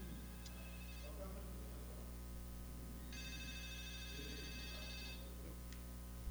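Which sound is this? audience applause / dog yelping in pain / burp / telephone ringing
telephone ringing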